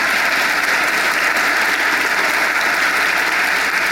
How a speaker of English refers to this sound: And before you leave here saying, I cannot believe I am such a nerd that I was clapping for the establishment of a new consumer agency, I want to remind you why that little agency is worth clapping for.